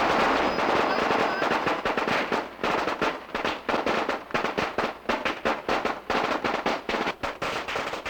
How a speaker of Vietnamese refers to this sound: Vào lúc 11 giờ sáng, chiếc xe chở Đức Cha Phêrô Nguyễn Soạn, giám mục Quy Nhơn tiến vào sân đền thánh. Một tràng pháo nổ giòn giã.